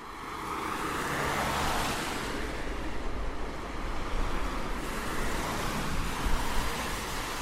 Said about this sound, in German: Der Unfallort im Frühjahr 2019. Auf 5 Spuren rauscht der Verkehr zwischen dem Zentrum Berlins und Spandau über die Brücke am Stößensee.